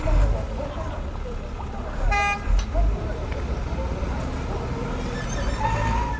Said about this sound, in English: A waste truck is lifting garbage at one of the biggest refuse dumps in Tamale.